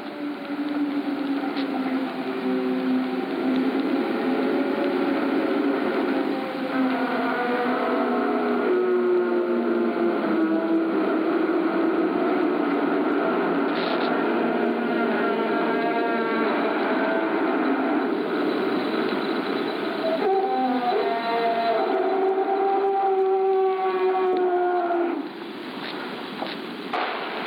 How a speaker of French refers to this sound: Mais on va écouter le chant des icebergs pour ceux et celles qui en auraient jamais entendu parler. Ou vous allez voir, c'est beau.